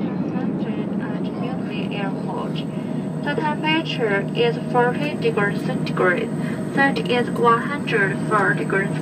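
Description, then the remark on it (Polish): A steady, loud engine drone fills an airplane cabin in flight from Kunming, China, heading west to New Delhi, India, with muffled voices of people talking over the constant rumble. “Teraz czas na zapowiadaną wizytę w Indiach, a zatem wsiadamy w samolot w chińskim Kunming i ruszamy na zachód.”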